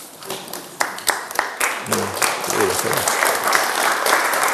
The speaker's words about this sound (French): Attendez, c'est pas maintenant qu'on applaudit, c'est à la fin.